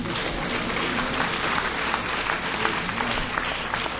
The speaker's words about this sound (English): Go ahead and clap. You want to.